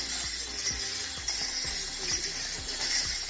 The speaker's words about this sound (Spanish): Así sonaban las cadenas de los empalaos de Jerez de los Caballeros, de la Hermandad de Penitentes del Santísimo Cristo, de la Vera Cruz, uno de los pasos más destacados de este lunes santo en la región.